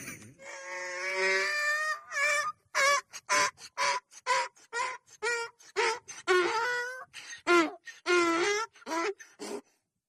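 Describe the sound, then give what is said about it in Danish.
A donkey brays loudly, a long harmonic wail followed by rapid, rhythmic hee-haw gasps and two more drawn-out cries, with no one talking. “Prøv lige at høre, hvad det her æsel siger.”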